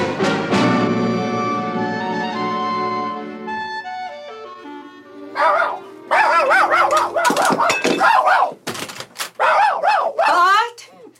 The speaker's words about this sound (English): Down. Down, little dog.